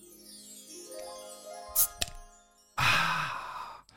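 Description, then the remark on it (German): Opening a glass nostalgia bottle of 9 Springe-Cola from the Eichsfeld: faint glassy ringing, a brief scrape and a sharp click, then a loud, breathy hiss of escaping gas that tapers off over about a second. No one speaks. “bewährte Nostalgieflasche auf”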